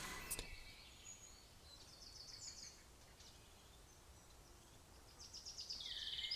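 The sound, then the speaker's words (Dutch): Faint birdsong drifts in from outdoors: birds whistling cheerfully all around, with scattered high chirps and short trilling phrases coming in bursts over a steady soft hiss, with no one speaking. “Vogels, zoals u hoort, fluiten nog vrolijk om mij heen.”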